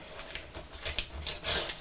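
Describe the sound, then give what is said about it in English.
A paper knife slits open a letter's envelope, stamped and postmarked South Wales, in a run of short, dry, papery rasps, ending in one longer, louder scraping stroke. No one speaks. “Well, let's use this, shall we, the paper knife to help open it.”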